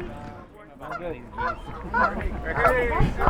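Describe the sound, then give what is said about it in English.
Several geese honk in a rapid, overlapping chorus, loud, with harsh nasal calls building in intensity over a few seconds, as a newly married couple leaves their wedding ceremony. Faint human voices murmur underneath. “I hear the geese. The geese are singing a song for you, wedding song for you.”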